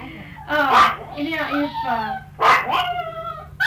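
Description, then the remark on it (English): A small dog barks and yips excitedly, two sharp, high-pitched bursts about two seconds apart, with whiny, yelping sounds trailing between them. “That little dog, make him hush. Tiger gets so excited.”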